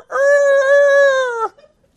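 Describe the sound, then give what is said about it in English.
A rooster crows once, a loud, steady drawn-out call lasting over a second that cuts off abruptly. No voices accompany it. “And immediately the rooster crowed.”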